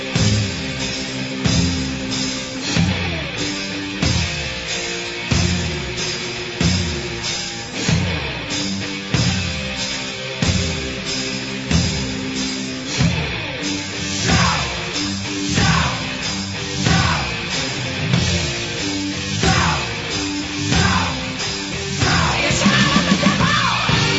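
A loud, dense hard rock track with pounding drums on a steady beat and distorted guitars, while a singer yells and screams over the top in wild, wordless-sounding bursts.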